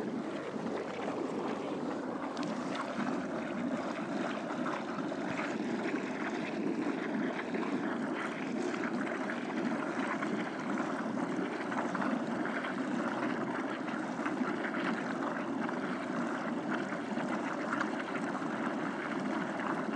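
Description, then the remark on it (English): Water gurgles and bubbles steadily as a cane is pushed down into it, a dense, continuous churning sound that holds an even loudness throughout, with no voices. “Making a very funny gurgle with this.”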